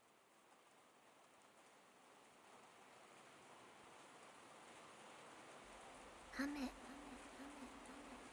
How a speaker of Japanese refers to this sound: 雨が降る。 体をきれいにする。水のしずく。 君の体がきれいになっていく。 私の香りと 私の雨で 君の体がきれいになっていく。